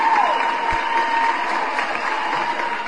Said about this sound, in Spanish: Con los aplausos, por supuesto.